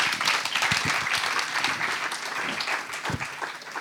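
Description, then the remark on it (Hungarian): Sustained audience applause for the authors, a dense wash of many hands clapping at a steady, fairly loud level throughout, with a few faint voices mixed in. “Hagyj kérek egy nagy tapsot a szerzőknek, köszönjük szépen.”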